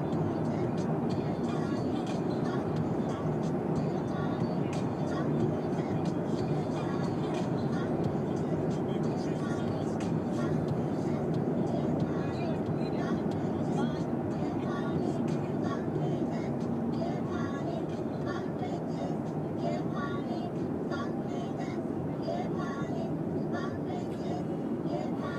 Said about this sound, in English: I don't really know what Peter Moore is saying in this specific case, because I'm driving a car and not looking at my iPad.